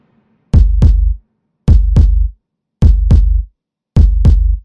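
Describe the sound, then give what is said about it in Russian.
A loud heartbeat thumps four times at a steady, slow pace, each beat a deep double knock, lub-dub, with brief silences between and no other sounds. “Стук сердца переполняет все чувства.”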